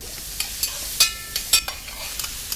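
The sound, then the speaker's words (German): Onions sizzle steadily in a hot pot as they are lightly browned until glassy, a bright crackling hiss with scattered sharp pops and a few louder spits, no voices over it. “Da kommen jetzt die Zwiebeln in das Stück und da wird das so was glasig ein bisschen angebräunt.”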